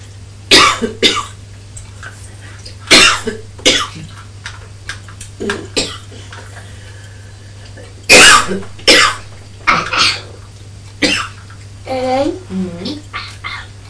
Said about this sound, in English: Are you copying Mummy coughing? No. Poor Mummy. Ooh. Ooh. It's the pepper. It's the pepper.